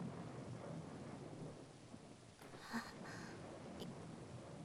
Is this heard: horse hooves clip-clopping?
no